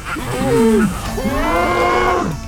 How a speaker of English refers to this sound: The child's body bulged and rippled with muscle. Its cry was an animalistic grunt, like the sound of a cow being slaughtered, and its head was that of a bull.